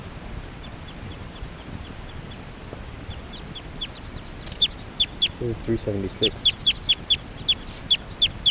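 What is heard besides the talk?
bird clucking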